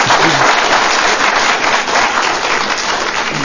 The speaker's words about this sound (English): I'm going to ask you to please refrain from any kind of applause or keep the hearing chambers quiet out of respect for those that are speaking. Please contain yourself.